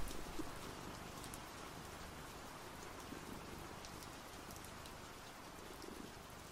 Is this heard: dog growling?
no